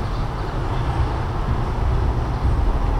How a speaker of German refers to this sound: Auf der nahen Nebenstraße rauscht die Straßenbahn.